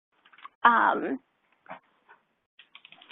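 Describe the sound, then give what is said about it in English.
A dog lets out one short, loud, pitched whine that slides downward as she wants to leave the room, surrounded by quiet scattered clicks and taps like keyboard typing. “Sorry, my dog decided she needed to exit the room right at that moment.”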